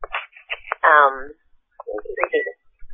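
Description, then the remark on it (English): A string of electronic phone text message alert tones chirps in quick succession as someone texts repeatedly, a bright chiming notification pattern repeating several times, fairly loud, with brief gaps between bursts. “He's texting me like crazy. Can't find my phone to turn it down.”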